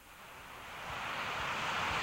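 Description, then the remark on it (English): The Fall Creek waterfall in Ithaca, New York, drops about 90 feet into a pool with a steady, broad hissing roar that swells slightly over the first second and then holds constant, fairly loud, with no voices. “Fall Creek in Ithaca, New York, drops about 90 feet into a pool of water.”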